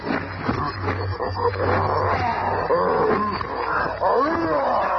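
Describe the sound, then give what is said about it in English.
A maddened gorilla roars and snarls ferociously as it springs on the Thing, a loud, continuous barrage of guttural growls and rising bellows with rough, churning scuffling underneath. “A ton of fighting fury in the form of a maddened gorilla springs on the thing.”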